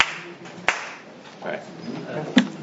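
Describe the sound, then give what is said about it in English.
A sharp, dry hand clap made to sync the sound of a recording before a talk rings out, followed about two seconds later by a second crisp clap, with faint murmuring voices and low background hum in between. “I just have to clap so that I can sync the sound in.”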